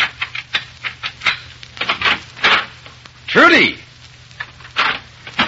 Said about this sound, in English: In a Chicago apartment hotel overlooking Lake Michigan, an attractive young woman dressed to go out for the evening is pacing the floor in a fit of ill temper. Presently, the cause of her ill temper inserts a key in the door.